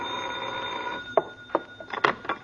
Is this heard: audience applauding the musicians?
no